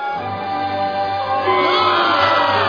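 A large crowd at a festival chants "Boo Earns" as a drawn-out, sustained vowel in unison, a loud, steady roar of many voices that swells slightly toward the end.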